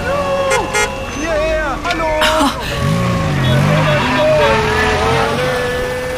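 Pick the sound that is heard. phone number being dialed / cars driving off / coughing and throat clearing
cars driving off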